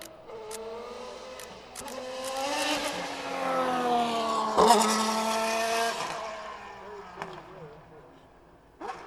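A car drives past on a dark street at night, its engine hum swelling as it approaches, peaking midway, then fading away. The pitch shifts as it passes.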